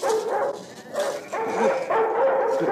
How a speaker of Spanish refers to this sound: Pero alguien viene. Debe ser algún amigo. Por los ladridos confiados, pues...